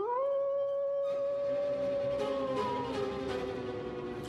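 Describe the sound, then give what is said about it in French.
A wolf lets out a long, sustained howl that holds steady and then slowly slides downward in pitch, fairly loud, with a faint airy background and no voices. “La tuile à loup siffle et le loup commence à hurler.”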